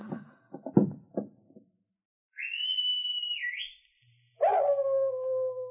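animal howling

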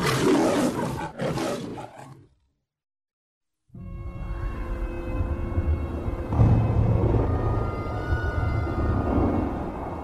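lion roar

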